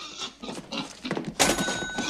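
A pig grunts in a few short bursts as it is pushed towards a hospital's front door, then lets out a louder, sustained squeal toward the end, with no one talking.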